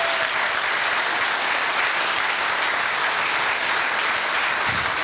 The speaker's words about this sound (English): If you agree with me, please give God a wonderful hand clap of praise.